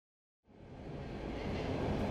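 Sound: train interior ambience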